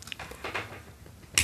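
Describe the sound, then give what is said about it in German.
A light switch behind a shelf, for a lamp, clicks once, a single sharp, bright snap near the end, preceded by a second or so of quiet shuffling and rustling. No one speaks. “Hier ist hinter dem Regal ein Lichtschalter.”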